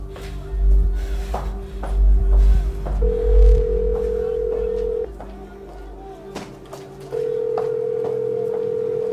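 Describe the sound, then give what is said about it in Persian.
A call to someone's mobile phone rings out with no answer: long, steady ringback tones repeat with silent gaps between them, over a low rumble and a few faint knocks, with no one speaking. “گوشیشو بر نداره. طبیعی نیست.”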